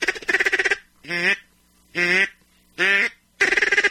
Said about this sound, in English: I don't know if that's going to help you or hurt you, but I'm trying to bring you some ducks. I hear you need a little help over there. I'm going to get you a ticket for electronic call.